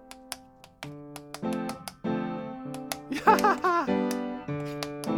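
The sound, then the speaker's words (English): Crisp tap shoes click in quick, irregular bursts over a background of sustained musical notes, the taps sharp, sometimes clustering into rapid flurries. “And mine didn't treat the cows to a little tap dance from my loving feet.”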